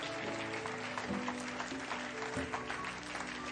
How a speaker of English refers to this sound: Give the Lord a great clap offering this morning, would you?